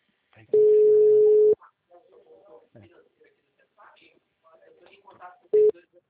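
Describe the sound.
A telephone ringing tone: one steady, loud, mid-pitched tone lasting about a second, then a brief second tone begins near the end, with quiet speech murmuring in the gap.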